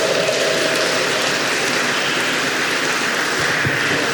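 A crowd claps steadily, a dense, even wash of applause that holds at full strength for the whole few seconds without rising or fading, with no voices cutting through.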